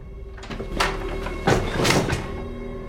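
door opening

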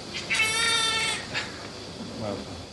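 newborn baby crying

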